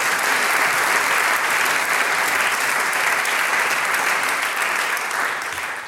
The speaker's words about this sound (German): Dankeschön, dass wir da sein haben dürfen. Euer Applaus. Dankeschön.